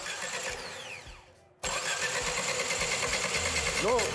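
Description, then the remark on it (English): An engine overfilled with motor oil runs with a fast, rhythmic mechanical clatter and churning, splashing oil inside as the crankshaft and conrods dip deep into the oil; it dips briefly, then surges back abruptly and keeps running steadily. “That's all down to the crankshaft and the conrods dipping in way deeper than before, splashing way more oil around.”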